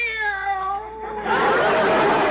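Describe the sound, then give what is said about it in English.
A cat named Minerva, responding to the names of dogs, lets out a long, loud meow that slides downward in pitch, then breaks into a harsher, raspy yowl, with no talking. “This cat is dog happy. I think she'd even respond to a dog she'd never heard of before, like Bowser.”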